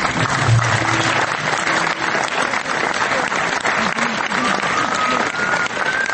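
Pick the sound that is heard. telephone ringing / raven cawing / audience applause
audience applause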